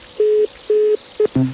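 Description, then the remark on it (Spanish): A telephone busy signal on a sales extension line: a steady, mid-pitched tone pulsing on and off in a few even beeps, clear, before breaking into a shorter, lower tone at the end. “Una extensión, un teléfono ocupado de ventas.”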